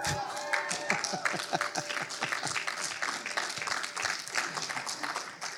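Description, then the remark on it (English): An audience at Ascent Church breaks into steady applause, many hands clapping densely and continuously for several seconds, moderately loud, with a faint murmur of voices underneath. “It's like, do I clap? Do I not clap?”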